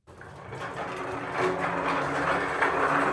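A small cart loaded with books is pushed into a separate room of the Stadtteilbibliothek Jena-Lobeda library in Jena, rolling with a steady rattling, rumbling clatter of wheels that grows a little louder partway through and continues without pause. No one speaks.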